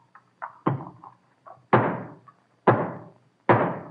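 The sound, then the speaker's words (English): A hammer drives the last nail into the wood of a new state house: a few light setting taps, then three heavy, ringing blows spaced about a second apart, loud with no voices. “When this nail is home, the new state house will be ready for the legislature.”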